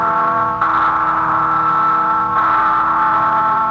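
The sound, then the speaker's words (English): The Freedom Bell rings loudly and continuously, its deep, humming tones sustained, with fresh strokes renewing the clang about every second and a half. No one speaks. “This is Paul Revere, called back from the shadows by the sound of the Freedom Bell, to cry again a warning that the price of freedom is eternal vigilance.”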